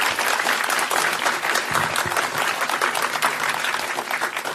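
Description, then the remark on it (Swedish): An audience claps steadily as a panel guest is welcomed onto a stage, a dense wash of many hands that stays loud and even for several seconds, with no one speaking over it. “Ge en varm applåd till Dilan och Apek.”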